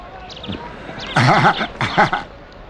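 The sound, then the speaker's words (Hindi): A horse whinnies loudly in two wavering, quavering bursts, preceded by a few faint, light hoof clops. No one speaks. “असली घोड़े के मानिंद इस पर सवारी कर रहा है।”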